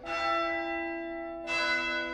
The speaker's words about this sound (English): Ring the bell. You ring the bell. Really quite fantastic sound. The sound of the bell.